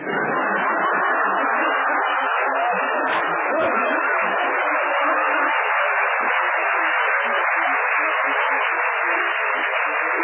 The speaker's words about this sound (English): Oh, no special station. Just fiddling around with the super heterodyne here to see if the rheostat is picking up any static.